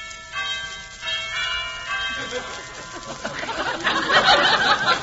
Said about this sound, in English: Oh, I'm just dying to see what Hubert's place looks like. Well, I'll ring the bell.